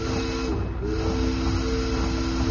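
A big boat's steam whistle sounds one long, steady, low-pitched note, unbroken throughout, over a constant hissing rumble, as the boat comes in on a river. No voices.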